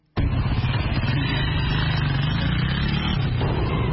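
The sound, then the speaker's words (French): Dense rush-hour street traffic in Ouagadougou rumbles steadily, with engines of cars, heavy and light vehicles and buzzing mopeds blending into a continuous droning roar that starts abruptly and never lets up. “Poids lourd, poids léger, mobylette, bicyclette, tricycle, charrette et même parfois animaux. Tous se retrouvent sur les mêmes voies.”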